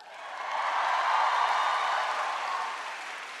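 An audience at the University of Michigan applauds an introduction steadily: a dense wash of many hands clapping that swells slightly and holds at a fairly loud level for a few seconds without any talking.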